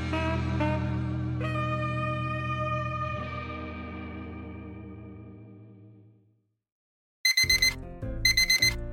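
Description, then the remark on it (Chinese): A sustained electronic tone slowly fades into silence, then an alarm clock goes off loudly in two short, bright ringing bursts, with no voices; the sleeper wakes and presses it off. “小薇醒过来，把闹钟按掉”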